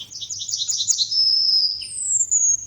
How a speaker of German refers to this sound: Ja, ich will einfach nur die Goldammer hören. Ruhe jetzt. Ja. Das geht noch 4 Minuten so.